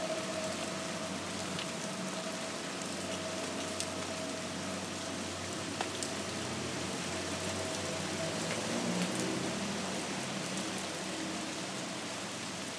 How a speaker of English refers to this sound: Oh, it smells nice. I do like the smell of rain.